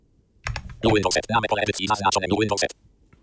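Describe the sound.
A short burst of computer keyboard typing, a few quick clicking keystrokes entering the word "test" as the name of a new workspace, followed by a person talking over the rest of the moment.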